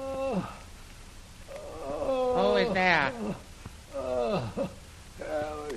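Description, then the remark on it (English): A man in a cell fakes groaning loudly in several drawn-out, falling moans, with a short spoken question breaking in between them. “Start groaning.”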